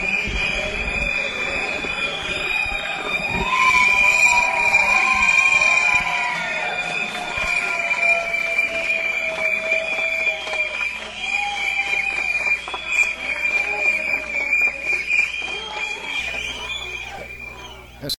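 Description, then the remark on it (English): A large crowd of FMLN supporters at a street march cheers loudly and steadily for Shafiq Handel, former FMLN leader, with a shrill, sustained whistle-like tone over the roar and a few rising and falling voices, fading slightly toward the end. “that cheer that went up was for Shafiq Handel, who was the former leader of the FMLN, who narrowly lost the presidential race in 2004.”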